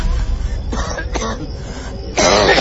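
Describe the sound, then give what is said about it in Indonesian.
An elderly man coughs several times after falling down, a few harsh bursts followed by a longer, rougher fit of hacking at the end, with no talking. “Sampai tiba-tiba kakek itu pun terjatuh dan batuk-batuk.”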